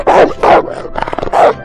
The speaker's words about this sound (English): Wolf. A wolf.